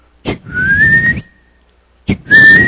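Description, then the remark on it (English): Two loud human whistles, each starting with a sharp burst and then rising into a long sustained tone, separated by a short silence, as a herding call to cows hidden in bushes on a hill. “And those cows started to come down off that hill. They understood the call.”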